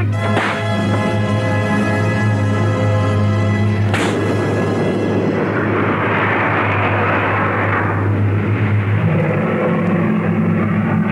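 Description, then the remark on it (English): A slap sound effect: two sharp, reverberating slaps, about four seconds apart, crack over a loud, steady droning hum that later swells into a rushing, hissing roar. “That's certainly a smack that reverberates.”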